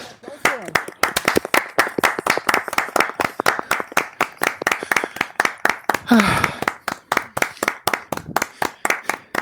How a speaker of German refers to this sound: So. Wir haben es geschafft. Ich will Applaus hören.